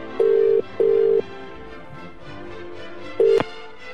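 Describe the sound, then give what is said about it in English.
Three electronic keypad beeps from a phone dialing King Edward VII Hospital: two steady tones in quick succession, a short pause, then a third, clear with a faint background hum. “So the number's going in.”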